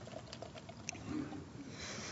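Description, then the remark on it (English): Drinking water is poured into a cup, a soft, steady trickling hiss that grows brighter toward the end, with no one talking. “I'm going to pour this in a cup, my water.”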